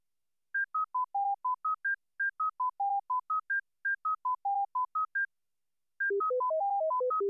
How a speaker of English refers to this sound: Now we present standards before these crossing patterns. Judge how clearly you can hear them in the full pattern. The first standard contains only the higher frequency tones from the full cycle.